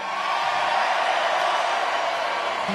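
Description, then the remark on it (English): An Irvine crowd cheers and whoops in a steady, dense wash of noise that holds at an even, fairly loud level for a few seconds, with no one speaking. “You gotta love this Irvine crowd.”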